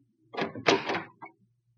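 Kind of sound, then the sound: household object, door being opened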